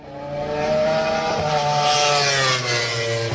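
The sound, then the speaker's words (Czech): Two Yamaha racing motorcycles, ridden by Valentino Rossi and Jorge Lorenzo in testing, scream around the Masaryk circuit in Brno, their high-pitched engine whine rising and dipping as they rev through the gears, loud and continuous for a few seconds with no voices. “Na dráze brněnského okruhu se zatím prohánějí jen dva jezdci, Valentino Rossi a Jorge Lorenzo.”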